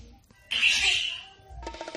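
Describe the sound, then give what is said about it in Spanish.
A pet parrot lets out a loud, harsh squawk lasting about a second, followed by a shorter, raspy, voice-like squawk, with no one talking. “Los loros me pierden, los loros me pierden.”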